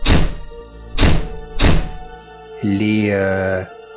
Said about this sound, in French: Et au fur et à mesure qu'il les agresse par la parole, il y a des choses étranges qui se passent dans l'enceinte. Peut-être que les loquets des fenêtres se ferment.